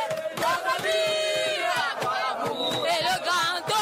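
A dense street crowd at the Poste Central in a city centre in Cameroon chants and shouts in unison with patriotic fervor, singing the refrain of Cameroon's national anthem, many voices rising and falling in loud sustained cries with bursts of cheering, steady and continuous throughout.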